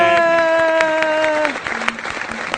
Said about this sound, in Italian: se vuoi mandare un applauso, fra mando un applauso. Non so se ce l'ho l'applauso, ce l'ho.